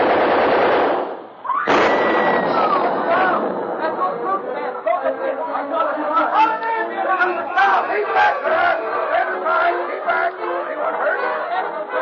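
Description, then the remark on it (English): Loud bursts of machine-gun fire open the scene, a short break, then another burst, followed by a dense crowd of excited voices shouting and chattering. “Think I'll unlimber the gun on that place, too.”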